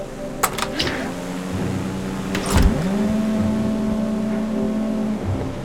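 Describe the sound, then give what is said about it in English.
A steady, layered drone of many boat engines humming together across the water at night, boats with searchlights searching the water, holding constant throughout, with a couple of brief knocks early on and midway. “What is that? Sounds like an armada.”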